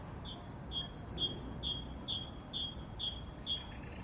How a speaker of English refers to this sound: anyone knows what that bird is, please tell me.